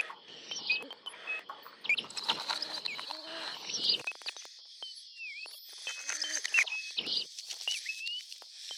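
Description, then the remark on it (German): Birds chirp busily throughout, with overlapping high twitters and short whistled swoops, while softer rustling and tapping sounds mix in underneath during the first half. “Als wir hören erstens an den Vögeln,”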